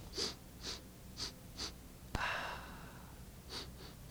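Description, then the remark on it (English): Quick, soft sniffs repeat, four in a row, then a sharp click and brief rustle, followed by two more sniffs, as a person sniffs the cork just pulled from a bottle of wine. No one speaks. “You see, what we're doing when we sniff the cork is we're sniffing for acetic acid.”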